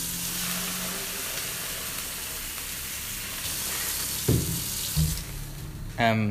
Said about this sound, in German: Wasserhahn an.